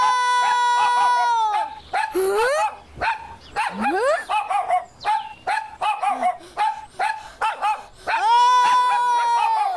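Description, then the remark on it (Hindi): A dog barks in a quick, loud run of yaps and yips, framed by long, drawn-out whining howls at the start and end, with rising whimpers in between and no talking. “नहीं गुलाम रसूल भाई, ये कुत्ता मेरी नकल उतार रहा है, मैं इसको नहीं छोड़ूंगा।”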